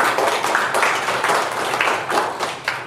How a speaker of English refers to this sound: Give the Lord a hand of applause.